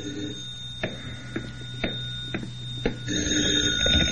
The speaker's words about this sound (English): But even as I started to open my door, the phone rang.